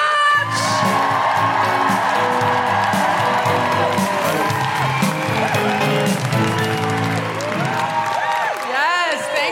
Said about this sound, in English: Put your hands together and make incredible woo-hooing noises for the one, the only,